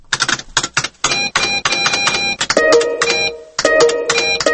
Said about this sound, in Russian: Такой звук обычно сопровождает загрузку страницы в интернете. Он означает, что страница не может быть загружена, потому что она не найдена.